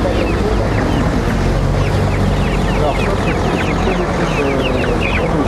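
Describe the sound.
Hens, including white broiler hens offered for sale, cluck and chatter continuously in a busy, crowded chorus, with overlapping short calls over a steady low rumble and murmuring voices in the background.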